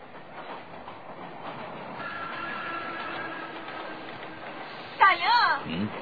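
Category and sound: vehicle, passing train on rails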